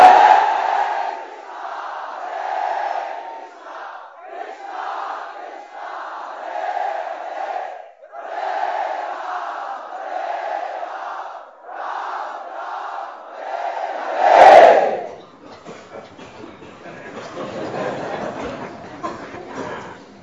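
A crowd loudly chants Sankirtan in steady, repeating call-like phrases, then erupts in a sudden loud shout that breaks into a rough, noisy mass of voices.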